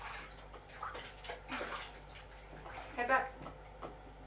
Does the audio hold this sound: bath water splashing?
yes